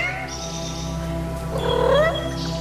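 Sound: cat meowing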